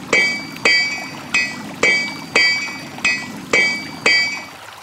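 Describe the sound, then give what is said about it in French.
A blacksmith hammers metal on an anvil: eight steady, evenly spaced ringing strikes, each clang bright and fading into a short metallic hum before the next blow. No voices. “Une forge permettait de réparer les calèches et de ferrer les chevaux.”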